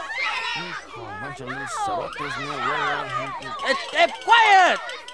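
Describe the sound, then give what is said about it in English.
Several children shout and squeal over one another in a loud, constant jumble of high-pitched voices, with excited yells rising sharply toward the end. “can't you do something to quiet these kids down? They're driving me crazy”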